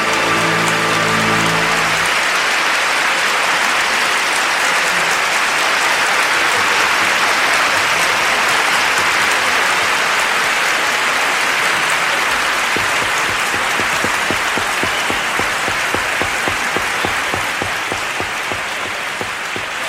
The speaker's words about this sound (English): Thank you very much, members of the Academy, and thank all of you who applauded.